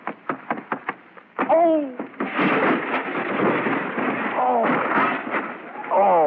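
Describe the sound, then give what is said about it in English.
A quick run of sharp knocks, then a loud, sustained crash as a person attempting a backflip cartwheel upsets a table and dishes clatter and tumble, with yelping voices cutting through the din. “You've upset the whole table.”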